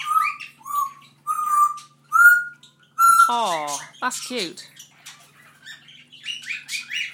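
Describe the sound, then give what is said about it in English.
At least two budgies chatting in a cage chirp in a run of four bright, evenly spaced tweets, then break into a busier warbling chatter of squeaks and trills, with a person briefly speaking over the birds. “I think there's at least two budgies chatting in that cage.”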